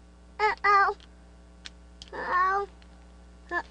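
A cat meows three times in short, separate calls: a quick double mew, a longer drawn-out meow, then a brief one at the end, clear with no talking.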